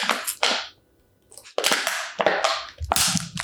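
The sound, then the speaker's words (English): A plastic Orange Crush orange pop bottle is crumpled in loud bursts of sharp crackling, two quick crunches, a short pause, then a longer run of irregular crinkles and pops with no voices. “Just crumpling my bottle.”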